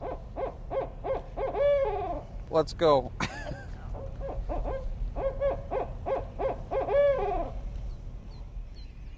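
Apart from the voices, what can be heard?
barred owl hooting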